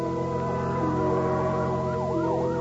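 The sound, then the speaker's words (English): A fire engine siren wails loudly and steadily, screaming through the night in a city, its pitch sweeping up and down in repeated whooping cycles over a constant engine rumble, with no voices. “A fire engine, suddenly screaming through the night, draws her swiftly from her bed to the open window.”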